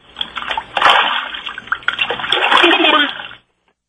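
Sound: water splashing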